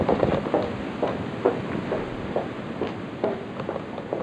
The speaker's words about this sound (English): Now, that footsteps you're hearing, we're walking to our car, and there's three officers following us at that time.